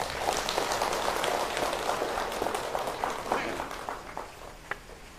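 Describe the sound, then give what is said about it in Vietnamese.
An audience claps together in steady, dense applause for several seconds in answer to a call for a big round of applause, many hands overlapping into a continuous patter that gradually thins out toward the end. “Và nếu ai thấy điều đó là rất cần thiết và làm được trong tầm tay của mình, thì hãy dâng cao một tràng pháo tay thật lớn.”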